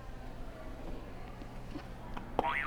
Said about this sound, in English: before we start, do you want to hit a buzzer for me? Any button you want.